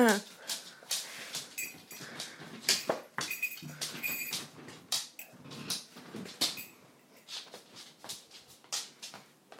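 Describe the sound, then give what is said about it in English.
A guide dog gnaws and clatters a bone, producing irregular scrapes, clicks and knocks throughout, with soft whimpering mixed in and no one talking. “Dog's here as well. A guide dog.”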